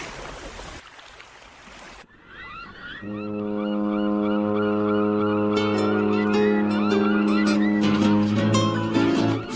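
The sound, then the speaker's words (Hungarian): A deep, steady ship's horn blasts for several seconds, loud and sustained, after a brief rush of sea-like noise, with faint warbling cries above it. “Már közeledik a hajó, halljátok ti is a tenger zúgását s a hajó kürtjét.”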